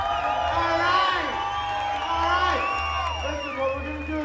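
A crowd cheers and whoops loudly for several seconds, with overlapping rising and falling shouts over a steady low hum and a wash of applause.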